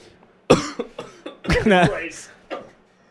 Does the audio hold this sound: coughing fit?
yes